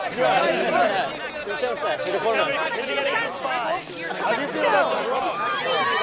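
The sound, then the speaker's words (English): A dense, overlapping babble of many voices talking at once, loud, as a pack of press photographers and journalists surrounds two people walking through an airport, calling out around them, with no clear words standing out. “As Bjorn and Mariana walk through an airport, a pack of press photographers and journalists surrounds them.”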